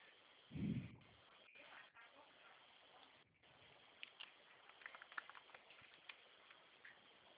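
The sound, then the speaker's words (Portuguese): Steady rain hisses in the background, with scattered drips and light pattering taps toward the end. It sounds muffled and narrow, as if over a phone line, with one low thump near the start. “Tá chovendo.”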